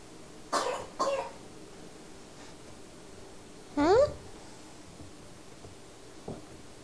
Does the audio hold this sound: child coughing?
yes